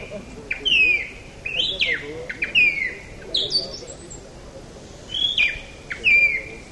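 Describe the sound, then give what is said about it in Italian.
A person on a stage imitates a nightingale's song with a run of bright, warbling whistled phrases, about six bursts in quick succession, over a low murmur of an audience. “Ecco, questa è un'esibizione, come se fosse un gruppo su un palco, si arriva e si imita il canto di un uccello, come in questo caso ancora.”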